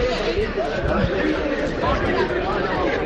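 A steady babble of young people chattering in the morning in the nightlife areas of the Ensanche district of Santiago de Compostela, with broken glass on the ground; many overlapping voices blend into a continuous, moderately loud hubbub with no single speaker standing out.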